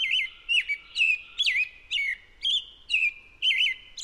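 A bird chirps and calls in a steady series of about eight bright, warbling notes, each spaced roughly half a second apart, clear and close with no voices.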